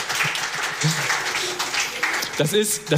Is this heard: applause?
yes